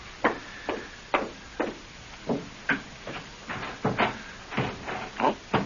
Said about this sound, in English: Oh. Come on. Come on, door. Open, will you? The darn thing's stuck. What's the matter? Oh, the door to the porch is stuck. I can't get out.